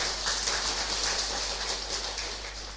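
An audience at the Long Hoa Buddhist nunnery applauds in a steady, dense wash of clapping that holds at an even loudness for about three seconds, with no voices over it.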